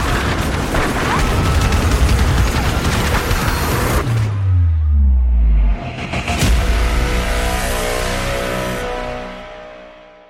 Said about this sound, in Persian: یه همهمه ای از جیغ زدن زن و مرد و بچه با صدای تیراندازی دور و برش جریان داشت.